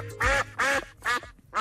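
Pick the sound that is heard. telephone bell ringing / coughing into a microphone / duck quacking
duck quacking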